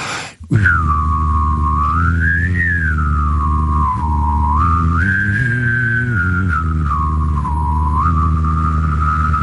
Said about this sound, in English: Okay, I haven't done this in a very long time. All right. But it's humming and whistling at the exact same time.